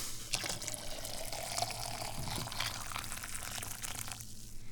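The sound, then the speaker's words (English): Just-boiled water pours steadily from a hot pan into a cup, a continuous splashing trickle that rises slightly in pitch as the cup fills, with no talking. “And we pour the water into the cup.”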